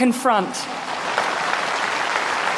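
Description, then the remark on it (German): A brief spoken word at the start gives way to sustained audience applause after a speech, applause also directed at a prime minister, a dense, steady wash of many hands clapping that continues evenly to the end. “Der Applaus galt auch einer Premierministerin, die mit ihrer Reaktion dazu beigetragen hatte, dass das Land in Einheit zusammenstand”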